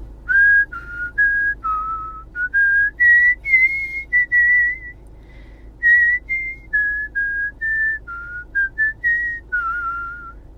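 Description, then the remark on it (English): A person whistles a movie theme tune, a steady sequence of clear sustained notes with short breaths between phrases, no talking throughout. “that latter one was not, because that is, and I think this will decide the case, that is the theme from the movie Babe”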